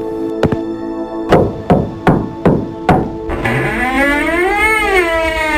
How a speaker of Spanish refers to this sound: Mira cómo nos pone la música de miedo.